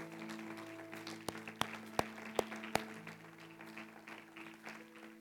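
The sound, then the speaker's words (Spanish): Five sharp, evenly spaced claps ring out in a steady rhythm during a church service, over a sustained hum of background music, then stop while the music carries on. “Dale un fuerte aplauso, Señor, claro que sí.”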